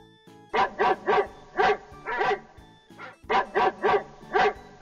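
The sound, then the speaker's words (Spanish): A dog barks in a quick series of sharp, loud barks, about nine in all, split into two runs by a brief pause. No one speaks. “¿Cómo hace el perro?”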